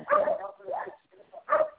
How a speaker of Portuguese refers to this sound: Estão nervosos os cachorros aí?